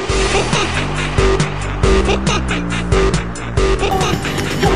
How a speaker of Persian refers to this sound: توی ماشینم به سمت پل شهرستان از پل بزرگمهر سوار شدم.